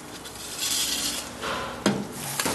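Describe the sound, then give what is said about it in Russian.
Soft scraping and rustling of kitchenware, followed by a sharp metallic clunk as a pot of vegetables covered with water is set down on a stovetop to boil, then a lighter knock shortly after. No talking. “Я прошу прощения, может быть, мы поставим нашу вот эту на огонь? И теперь мы заливаем наши овощи водой. И ставим, нам нужно их сварить.”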